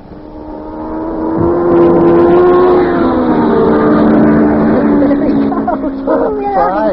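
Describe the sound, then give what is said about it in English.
A race car engine roars steadily on a race track during a big race, its buzzing tone shifting slightly in pitch as it comes around and speeds past, with a few short high yelps near the end. “Hey, Yuki, when are we going to drive your car around the track?”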